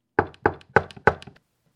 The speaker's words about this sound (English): Listen, I stand at the door. I am knocking.